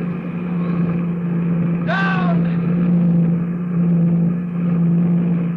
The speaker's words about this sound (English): Her magnetium hull white hot from the friction of the atmosphere. Her jet brakes belching fire. She's right over the field now. She's coming down. Down!